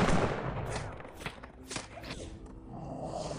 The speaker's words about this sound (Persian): تفنگچی ها شلیک کنین. پناه بگیرین. رابین تفنگ دارا. آتش